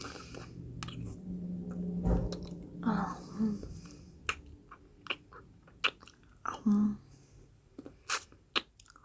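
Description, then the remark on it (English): Wet, smacking licking sounds come in an irregular series of soft slurps and clicks, with sharper bursts toward the end over a low, steady background hum. “I better lick it, so I guess your timer starts right now.”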